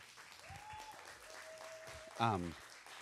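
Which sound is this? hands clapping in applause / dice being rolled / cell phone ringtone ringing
hands clapping in applause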